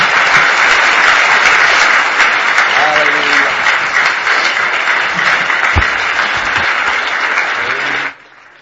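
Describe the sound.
A crowd claps loudly and steadily for about eight seconds, giving the Lord a clap of praise, a dense wash of many hands with faint voices and cheers mixed in, then the applause cuts off abruptly.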